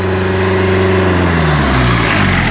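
A car drones loudly, then its engine pitch drops steadily as the driver brakes smoothly to a stop close to a cone in a braking exercise, with no voices.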